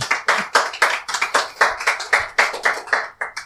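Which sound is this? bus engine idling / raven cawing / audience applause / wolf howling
audience applause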